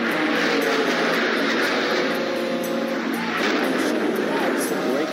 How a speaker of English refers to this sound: The plane is going down.